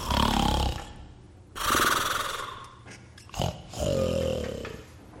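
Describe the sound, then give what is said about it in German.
Loud, rasping snores from a large sleeping creature in a dark barn, three or four drawn-out breaths with a short snort between them, heard on their own without any talking. “Das Etwas hat ein Gesicht und es schnarcht.”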